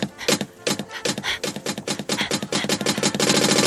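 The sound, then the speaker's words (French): A price labeler gun clicking rapidly over and over as price labels are put on boxes of dog kibble against a ten-second time limit, sharp mechanical snaps that speed up into a fast, continuous rattle by the end, fairly loud with no talking. “Et j'ai dans ma main l'étiqueteuse. Vous avez exactement 10 secondes pour me faire toute la rouger.”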